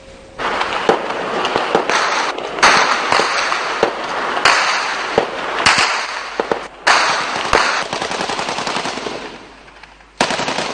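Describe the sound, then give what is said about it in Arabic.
Sustained bursts of automatic gunfire from street fighting between Bab al-Tabbaneh and Jabal Mohsen in Tripoli, northern Lebanon, crack and rattle, with sharp single shots scattered between the volleys and a steady wash of noise behind them; no one speaks. “يتصل ليل طرابلس بنهاراتها، نيران الموت بين باب التبان وجبل محسن لم تهدأ، قتلى وجرحى بالعشرات والحصيلة إلى ازدياد”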